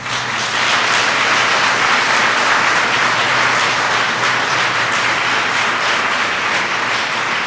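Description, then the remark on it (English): A crowd applauds steadily for several seconds, a loud, dense wash of many hands clapping at once with no voices rising above it. “And I applaud the teachers.”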